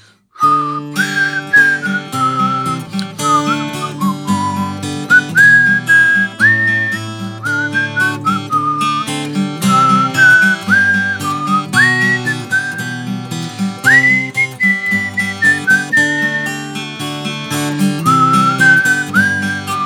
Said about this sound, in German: Ich pfeife euch mal die Melodie vor. Dann könnt ihr zu Hause gemeinsam mitsingen.